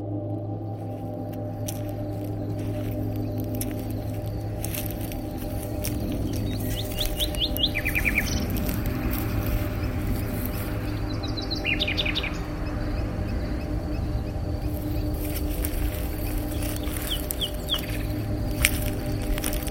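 Outdoor birdsong recorded on a phone in the north of Ibiza, around San Lorenzo and San Juan: bright, repeated chirps and short trilled phrases from several birds over a steady low background hum. No one speaks.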